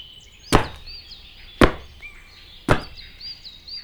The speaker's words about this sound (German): Na los, stampf mal kräftig mit deinen Füßen auf den Boden.